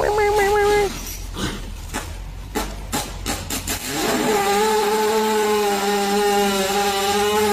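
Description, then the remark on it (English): A long, buzzy horse fart sputters loudly, droning like a small two-stroke chainsaw running a little rich, breaking into a few rough puffs midway before settling into a steady rasping tone. “It does sound like a two-stroke chainsaw running a little rich.”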